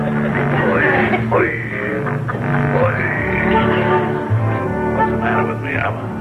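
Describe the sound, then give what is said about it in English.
A frog croaks loudly in a backyard, a continuous nasal, buzzy call that keeps sliding up and down in pitch for several seconds. “I'm nearly as stupid as this frog.”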